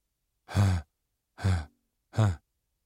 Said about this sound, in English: A rasping breathing filled the air.